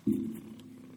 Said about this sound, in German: So ein lieber Kater. Schnurrt gleich ins Mikrofon.